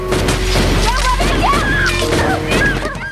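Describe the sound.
Several sharp, loud gunshot bursts crack out over a dense, noisy mix, with rising squeals and shouting voices running underneath throughout.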